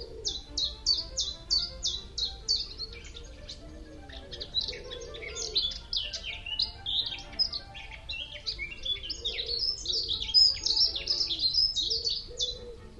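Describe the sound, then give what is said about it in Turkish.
A European stonechat sings in quick, scratchy bursts of high chirps and twittering phrases, repeating steadily throughout, with a soft low rumble of outdoor background underneath. “Hadi gelin onların o neşeli ötüşlerini dinleyelim.”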